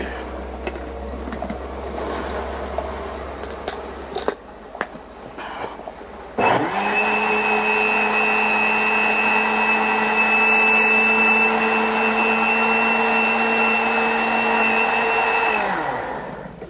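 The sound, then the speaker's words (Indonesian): A honey drink mixture with one and a half tablespoons of honey is blended until even: light clinking and clatter, then an electric blender motor whirs up and runs in a loud, steady drone for about nine seconds before cutting off. “Aduk sampai rata.”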